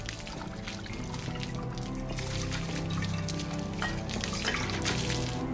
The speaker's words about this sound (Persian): ویچرا شمشیر رو روی میز میذارن، لیواناشون رو بر میدارن. به سمیل براشون نوشیدنی میذاره.